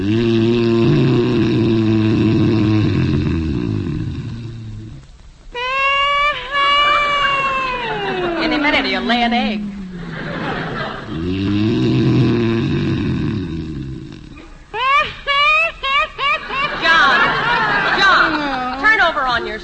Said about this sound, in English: You can stop that snoring if you want to. I know you can. No other man snores like you.